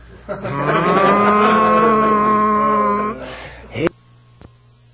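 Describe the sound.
A voice imitates an electric blender, a steady buzzing motor hum rising slightly in pitch for about three seconds before cutting off with a short breathy sound.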